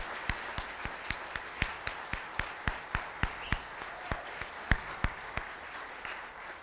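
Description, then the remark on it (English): An audience applauds for several seconds, a dense wash of clapping punctuated by sharp, individual claps landing in a steady, even rhythm. No voices break through. “thank you and applause to them for the work.”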